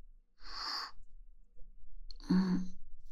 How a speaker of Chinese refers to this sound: 我听你的呼吸声，好像比之前来的时候更重了一些。是不是我太沉了？你背久了累啊？辛苦你了。